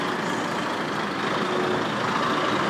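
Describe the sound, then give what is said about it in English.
A heavy 12-wheeled lorry rumbles steadily, its engine drone mixed with a broad, continuous hiss like air brakes releasing, loud throughout with no voices. “So now the lorry's gone and all we can hear now is the digger, that's it.”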